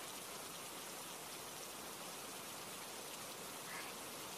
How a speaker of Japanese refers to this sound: あなたも雨宿りですか？じゃあ雨が止むまで一緒に待ちましょう。